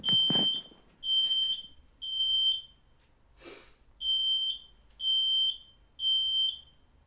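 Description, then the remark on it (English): A smoke alarm, set off by a candle, shrieks in a steady series of piercing high-pitched beeps, about one per second, loud, with a brief thump and rustle partway through. “Oh, one sec. It's the alarm.”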